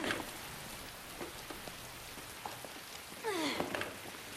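rain falling

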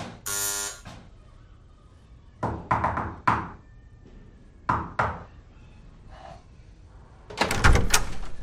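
knocking on a door

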